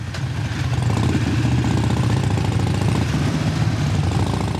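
group of motorcycles riding

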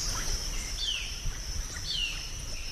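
birds chirping

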